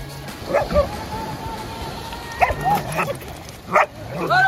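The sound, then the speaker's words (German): Several Portuguese water dogs bark in short, scattered bursts, a few sharp yips among them, over a steady outdoor background hiss, on a sandy beach by the sea on the Algarve coast of Portugal on a warm, rainy autumn day. The barks arrive irregularly. “sausen die Hunde raus, rennen über den Sand und tauchen Sekunden später ins Meerwasser ein.”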